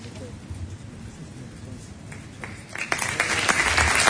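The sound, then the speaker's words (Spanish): Applause from a crowd at a ceremony for the pregonero of the Fiesta Taurina 2021 starts as scattered claps and swells into dense, steady clapping over the last second and a half, with a low murmur of voices beneath. “Pero sí los aplausos.”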